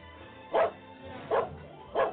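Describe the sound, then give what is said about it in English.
An old dog lets out three separate, evenly spaced barks, each short and fairly loud, with brief quiet pauses between them. “Good bark for an old dog.”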